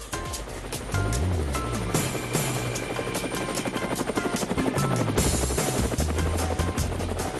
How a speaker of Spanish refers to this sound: Bueno, amigos de Cuba, estamos oyendo el helicóptero